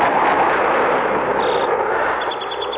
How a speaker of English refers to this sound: Listen. Ready? Aim! Fire!